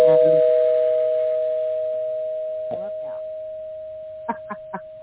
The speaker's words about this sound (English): Somebody rang a doorbell.